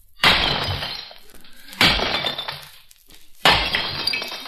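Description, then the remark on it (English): Dishes smash three times in a row, each loud, sharp crash followed by a jangling scatter of shards that fades before the next break. No one speaks. “Well, that's something breaking, so it should be dishes.”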